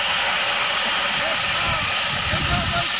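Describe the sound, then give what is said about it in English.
A loud jet airplane roars in a steady, hissing rush, a broad whooshing engine sound that fills the whole moment without fading away. “The planes are going through the hoops.”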